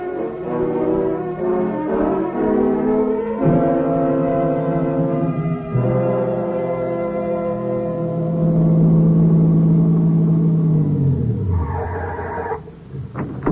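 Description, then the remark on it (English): A car engine drones steadily and loudly as the car drives down the road to a gas station, its pitch rising and shifting as if through gears, then winding down near the end as the vehicle slows. No one speaks. “You get in the car, drive down the road to the gas station, and use their phone, huh?”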